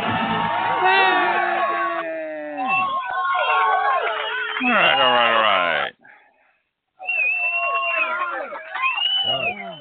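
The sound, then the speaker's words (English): A group of bus passengers cheering and whooping loudly, with overlapping high, rising shouts and excited voices, a brief near-silent pause, then another burst of hollering and chatter. “All right, bus people. Bus people are happy.”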